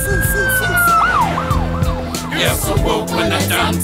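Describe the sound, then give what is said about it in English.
A loud emergency vehicle siren holds a steady tone, then breaks into a rapid series of rising and falling whoops over a low rumbling background. “You're so whoop when the sirens swoop.”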